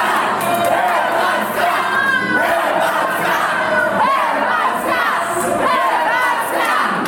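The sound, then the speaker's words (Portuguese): A large crowd of Croatian football fans roars and shouts continuously after Bruno Petkovic's equalizing goal against Brazil in extra time, a dense wall of cheering voices with rising whoops, loud and sustained throughout with no individual speech standing out. “E foi esse grito que se repetiu a cada pênalti marcado pela Croácia e a cada gol perdido pela seleção brasileira.”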